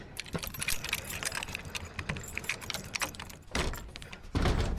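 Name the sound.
keys jangling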